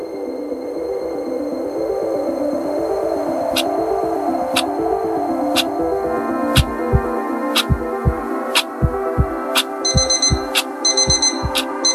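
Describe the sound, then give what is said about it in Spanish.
A digital alarm clock sounds a warbling electronic tone while soft, steady ticks mark each second, turning into rapid clustered beeps near the end. Fairly loud, with no voices. “Un tic-tac suave se mezcla con el pitido metálico de una alarma digital.”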